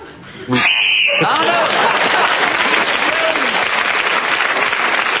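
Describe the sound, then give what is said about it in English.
A brief, steady high-pitched game show whistle blast sounds for about half a second, then gives way to loud, sustained audience applause that carries on to the end. “Peter's challenge came in just before the whistle.”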